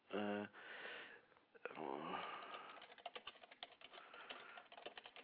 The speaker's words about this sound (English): Yeah, I'm typing to the publicist.